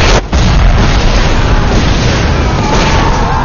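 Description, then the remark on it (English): A thermite explosion: a heavy, loud blast that surges into a continuous roaring, crackling rumble lasting several seconds, with a brief dropout just after the start and no voices. “That was thermite.”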